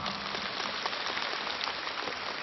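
A crowd claps steadily, a dense, even wash of many hands that holds at a fairly loud level for the whole stretch, with no voices on top.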